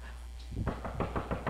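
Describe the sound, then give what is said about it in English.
A quick run of about half a dozen knocks on a hard surface, evenly spaced, starting after a brief quiet moment. “Hello? Are we knocking?”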